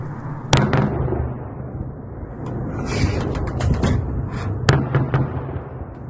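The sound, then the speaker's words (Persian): Successive air-defense explosions in Tehran: two sharp, loud blasts stand out, with a quick cluster of smaller popping bursts between them, all over a steady low rumbling background. No one speaks. “امروز در تهران شهروند خبرنگاران خبرهایی رو و صداها و تصاویری رو منتشر کردند که حاکی از صدای انفجارهای پی در پی یا انفجار پدافندهای هوایی بود و در کنارش آژیر ممتد هم صداش به گوش می رسید.”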